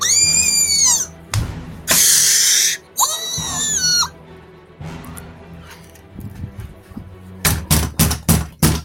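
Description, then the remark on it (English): Shrill screams alternate with loud crashing bursts from the lower floors of a building, followed by a quieter stretch and then a series of heavy, rapid bangs near the end, as the commotion draws nearer. “Yannick's family listened as the screams and crashing grew closer.”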